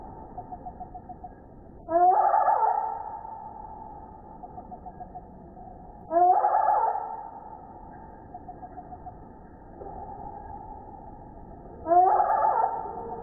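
Slowed-down recording of fighting hummingbirds: three loud, low, warbling calls that rise and linger, spaced several seconds apart, with softer rapid chittering pulses in between.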